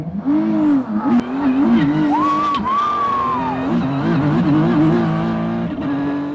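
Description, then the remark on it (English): A loud race car engine roars continuously as it speeds at about 190 miles an hour around a street circuit in Washington, D.C., its pitch rising and falling as it shifts gears and accelerates through turns, with a brief high whine or tire squeal in the middle. “We were just going 190 miles an hour around this track, flying past some of the most iconic sites in Washington, D.C.”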